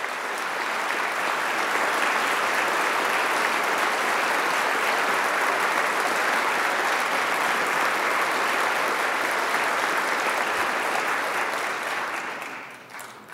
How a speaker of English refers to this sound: Even the governor's toughest critics in the legislature rise to their feet and enthusiastically applaud.